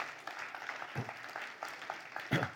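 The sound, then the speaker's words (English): A room full of people claps together, a steady dense patter of many hands, with a couple of brief louder bursts that may be cheers. “You can clap for that. That's worth clapping.”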